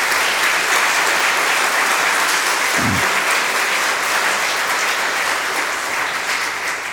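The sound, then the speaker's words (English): Steady, sustained applause from an audience at the end of a talk fills the whole stretch, a dense wash of many hands clapping at an even loudness, with one brief low thump near the middle and no voices. “Can we have another round of applause, please?”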